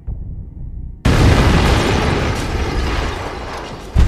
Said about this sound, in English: It is this heavy table that saves Hitler. It deflects the blast that would eventually kill 4 men and wound 20 others.